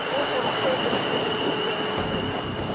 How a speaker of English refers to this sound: Do you want to get the number of that train?